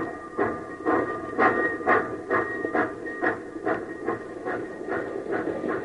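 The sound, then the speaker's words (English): A steam locomotive chugs hard as it races to catch up with runaway cars, its exhaust puffing in a steady, rapid rhythm of roughly two beats per second over a continuous hiss and low rumble, with a faint whistle-like tone running throughout. “Come on, you old iron horse. Run!”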